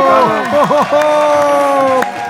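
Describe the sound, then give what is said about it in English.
A small group of cast and technical crew members cheering and whooping together at the end of a scene, with sustained, rising and falling voiced shouts that carry loud for a couple of seconds. “All the cast and technical crew cheer.”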